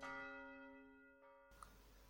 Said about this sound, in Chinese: 同时11点的钟声响起，从市中心一圈波纹扩散开来，覆盖了整个城市。